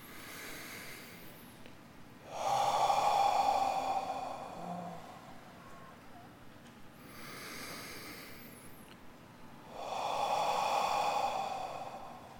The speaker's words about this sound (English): Let's just start by taking a nice deep breath in through the nose. Oh, and just breathing out through the mouth. Let's just do that two or three more times.